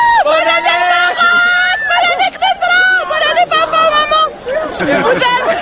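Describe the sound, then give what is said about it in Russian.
A crowd of excited people on the Champs-Élysées in Paris on New Year's Eve shouts and yells at a video camera and microphone. Many overlapping voices are loud and continuous, with a few brief dips before a final burst of chaotic cheering. “Местные и иностранные телерадиокомпании начинают премьер-репортажи, хотя любое появление видеокамеры и микрофона вызывает примерно такую реакцию.”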